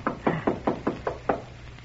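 Seven firm knocks on the wooden door of Mr. Stone's apartment at 2 a.m., in a quick, steady rhythm, fairly loud, with a low hum underneath and no voices.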